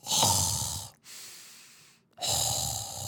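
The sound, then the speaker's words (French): Heavy, rasping breaths of a person in a gym doing nasal breathing and exhaling through the mouth after 10 swings: a loud noisy exhale, a softer breath, then another loud rasping exhale, with brief pauses between, no talking. “30 secondes de respiration nasale, en expirant par la bouche en mode Dark Vador”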